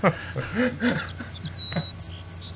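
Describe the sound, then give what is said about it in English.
A song sparrow sings out in the bush, a string of short, bright high notes and a clear sustained whistle, moderately loud, with some faint low murmuring underneath. “Here we got a song sparrow singing us a little song out here in the fucking bush.”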